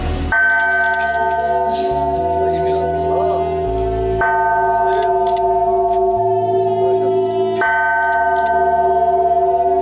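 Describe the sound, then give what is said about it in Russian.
A large, newly consecrated church bell, raised by a crane, is struck three times at slow, even intervals, the first strike made by Bishop Pavel of Yeysk and Timashevsk. Each deep clang rings on loudly and overlaps the next, with faint voices murmuring underneath. “Самый большой из них с помощью подъемного крана приподняли, и первый удар совершил епископ Ейский Тимошевский Павел.”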